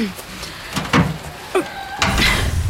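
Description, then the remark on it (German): A door is opened with a few sharp clunks and a short scraping creak, moderately loud, followed by a longer rattling sweep as it swings. “Ja, um die Tür zu öffnen, musst du...”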